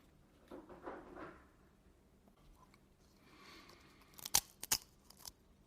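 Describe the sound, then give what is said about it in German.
Crunchy food being bitten and chewed: a soft rustling start, then a quiet pause, then three or four sharp, crisp crunches in quick succession. “Oh, es knuspert schön bei dir.”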